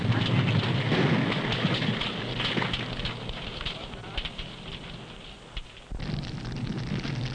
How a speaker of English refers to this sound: Sometimes the explosive detonates because of close confinement and intense heat. The effects of such explosions are measured and compared with those in an actual nuclear weapon.